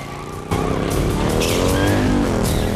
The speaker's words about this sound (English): Then, he sees a police motorcyclist approach. Get off! Having pushed the driver off, he then gives chase on the motorbike.